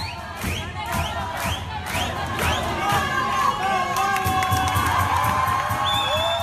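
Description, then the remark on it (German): A large crowd of young students hooting, whooping and jeering loudly as they jump over turnstiles in a collective fare-dodging protest, with overlapping shouted voices and rising calls, plus a few dull thumps underneath. “die zum kollektiven Schwarzfahren aufrufen und johlend über die Drehkreuze springen.”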